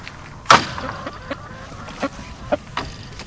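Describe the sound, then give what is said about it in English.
Three Americana hens in a portable chicken coop in a backyard in Medford, Taylor County, cluck, with one sharp, loud squawk near the start followed by several shorter, softer clucks spaced irregularly over a quiet outdoor background. “Behind the door of a portable chicken coop, Joseph Cohn picks up one of three Americana hens he had in his backyard”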